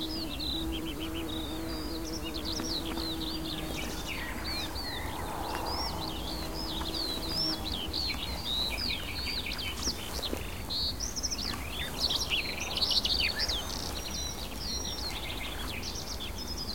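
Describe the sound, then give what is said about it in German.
A bird sings far up in the sky overhead, a long, unbroken, varied stream of rapid high twitters and trills, scattered with imitations including blackbird-like phrases, fairly distant and soft, over a low steady outdoor background with no voices. “über uns ist der Jubilierer weit oben im Himmel und von unten klingt dieser plätschernde, abwechslungsreiche, abrupt endende, sich manchmal überschlagende, voller Imitation gestreuter Gesang”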